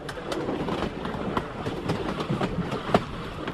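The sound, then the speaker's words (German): A train rolls steadily along the rails of the railway line from Guayaquil to Quito in Ecuador under a constant rumble, its wheels giving off irregular clickety-clack knocks over joints, moderately loud, with no voices. “Erst seit 2013, nach einer langen und teuren Renovierung, fahren wieder Züge auf der ganzen Strecke von Guayaquil bis Quito.”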